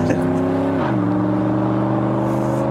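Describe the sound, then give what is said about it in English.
A just-started bus engine drones loudly, its tone dipping briefly as it shifts under acceleration, then settling into a steady, rumbling hum with no voices. “you got it it's started so it sound, it's purring here”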